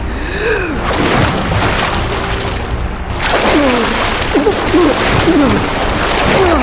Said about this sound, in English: Something large was sucked past Raoden in the current. Merciful Domai. Raoden released the rock and let the river drag him beneath its unseen surface.